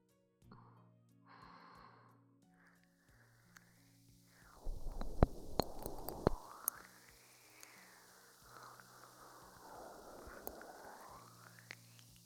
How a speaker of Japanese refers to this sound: パチパチと弾けるような音が出ているのはお分かりになりますか？この泡の中にはコーラやサイダーなどの炭酸飲料に含まれるのと同じ二酸化炭素が含まれています。